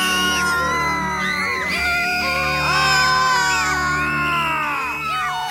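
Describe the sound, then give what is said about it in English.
A baby screams loudly, one long piercing wail after another with sliding, strained pitch, breaking briefly between cries and then resuming without any talking. “Baby screaming, that's a fine idea.”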